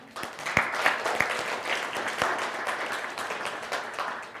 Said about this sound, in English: Can you clap for Jesus for that?